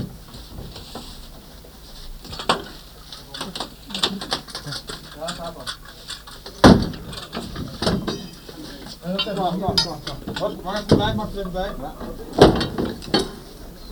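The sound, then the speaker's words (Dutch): A door is opened with a couple of sharp clunks amid light clattering and rattling, while people talk over the top. “En de deur is open.”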